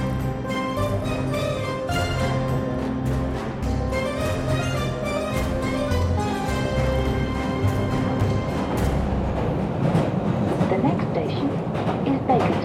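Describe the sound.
An underground train rumbles and hums through a subway station, a steady, loud drone with clattering and screeching building toward the end, and people's voices murmuring underneath.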